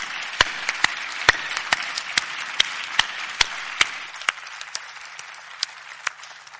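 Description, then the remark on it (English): A conference audience applauds the organizing team of Neil Stewart Associates, a dense, steady patter of many hands with sharper individual claps popping out, gradually thinning and softening over the last couple of seconds. “Please give their hard-working team a round of applause.”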